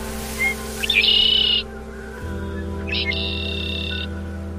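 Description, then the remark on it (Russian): A hoarse old bird screeches twice nearby, each call a harsh, raspy burst lasting about a second, over a low, steady droning background. “Неподалеку закричала хриплая старая птица. Ее крик был одновременно жутким и смешным, словно лай простуженной болонки, которая четверть века назад потерялась в лесу, но ничего не забыла и ничему не научилась.”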